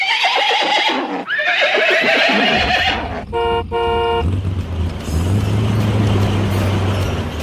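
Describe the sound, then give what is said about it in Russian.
Horses of Ded Moroz's magic troika whinny loudly, two long neighs back to back, followed by a brief honking horn and the low rumble of an engine. “Целую неделю волшебная тройка Деда Мороза и летающий грузовик «Дед Мороз Экспресс» с 20 снеговичками на борту носились из города в город, с улицы на улицу.”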